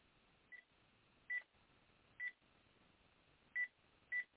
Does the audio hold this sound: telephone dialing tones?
yes